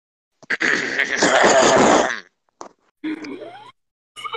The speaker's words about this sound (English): I was clearing my throat as if to ask something, but no, I'm just completely stumped like you.